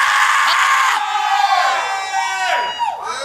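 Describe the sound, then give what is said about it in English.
An audience screams together in a loud, sustained wave of overlapping voices, high-pitched cries rising and falling for several seconds, intense with no pause. “Let's scream one more time.”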